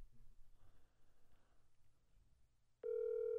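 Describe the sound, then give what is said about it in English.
After a few seconds of quiet room noise, a loud, steady electronic phone tone starts abruptly and holds to the end, like a call ringing through on the line. “Am I important enough that my phone will get picked up?”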